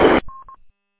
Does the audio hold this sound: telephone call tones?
yes